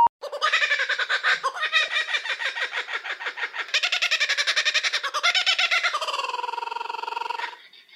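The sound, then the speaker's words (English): A laughing kookaburra's noisy territorial call rings out loud, a rapid cackling chatter that rises and surges in bursts for several seconds before ending in a sustained, wavering hoot. No talking. “If you guessed laughing kookaburra, congratulations!”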